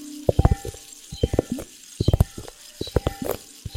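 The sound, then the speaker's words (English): Liquid-filled globes being handled, giving irregular bursts of soft clicks, taps and little sloshing sounds over a faint hiss, with no talking. “Liquid. Globes.”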